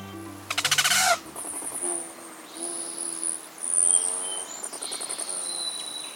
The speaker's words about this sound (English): Here they come. Rufous hummingbirds, ruby throats, and others are migrating north after a hot, dry winter in sunny Mexico or Central America. And they're ready for a drink.